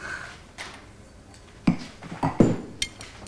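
Pasta and sauce being ladled onto plates: a handful of soft, irregular clinks and dull knocks of a utensil against dishes, close by and fairly quiet, with no one speaking.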